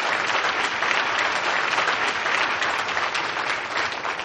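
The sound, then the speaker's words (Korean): A large church audience claps steadily for the church school children, teachers and youth department children, a dense, even wash of applause that stays loud and sustained for the full few seconds with no voices standing out. “청년부 어린이들, 그리고 암상불 그 주부 어린이들 위해 소리 박수 한번 쳐주십시오.”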